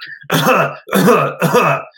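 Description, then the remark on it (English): A voice imitates a man coughing and clearing his throat outside a gas station: three loud, rough, hacking bursts in quick succession, with brief pauses between them. “Every time I walked up to the gas station, same guy was outside coughing the entire time.”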